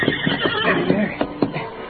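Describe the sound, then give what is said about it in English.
A horse whinnies in a short, shaky neigh that wavers up and down over about two seconds, with faint thuds from hooves or movement underneath. “Billy took one last look at his newly discovered treasure, then ran to his waiting horse.”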